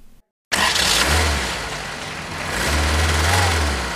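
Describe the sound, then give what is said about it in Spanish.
A car engine roars loudly after a brief silence, its broad noisy rumble swelling and easing over a few seconds, with a low droning tone underneath, continuous. “¿Sabe lo que es este coche?”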